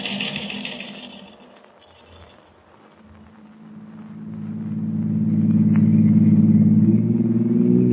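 A taxi's car engine hums along, dipping quieter for a moment before revving back up into a louder, steady droning rumble, with no voices present.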